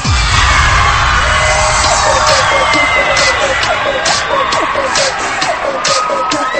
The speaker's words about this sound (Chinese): 慢慢的跟随着你的节奏来找开心找快乐，张大你的嘴巴来尖叫一声。